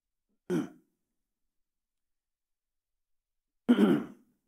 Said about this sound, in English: I want water. I think I'm thirsty now. And I'm coughing. But that's okay.